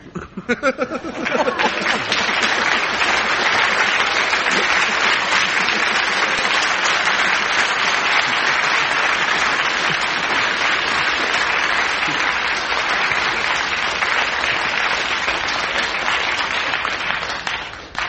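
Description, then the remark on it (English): Sustained applause from an audience voting for Frank Muir's story, a dense, steady wash of many hands clapping that starts after a brief bit of voice and carries on at a constant loud level before tapering slightly at the end. “But by your clapping, I think Frank Mill's story wins.”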